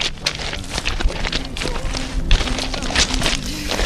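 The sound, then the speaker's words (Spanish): Crunching footsteps on the stony soil of a vineyard in the Cariñena wine district, a steady run of gritty scrapes and crunches, with a faint tonal hum underneath. “Es el sonido de las pisadas en la viña que nos da la clave del terreno. Es un suelo pedregoso.”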